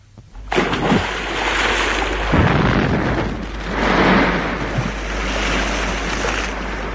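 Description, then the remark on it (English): A case is thrown into a river, splashing heavily into the water, followed by several seconds of loud churning, rushing water that surges and subsides in waves. No one speaks. “I'm going to throw it into the river.”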